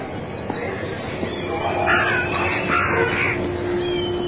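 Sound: large birds calling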